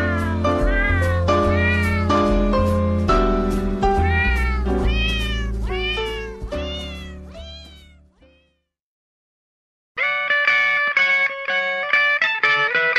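A cat meows loudly and insistently, one drawn-out, rising-and-falling call after another for several seconds, then falls silent briefly before another burst of wailing meows.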